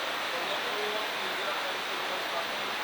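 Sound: running water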